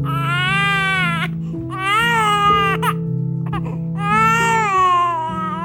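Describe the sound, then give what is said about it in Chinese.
A baby boy cries loudly and close up in three long, wavering wails with short breaths between them, over a steady low tone in the background. “小男孩一天天长大，哭声也是响彻云霄。”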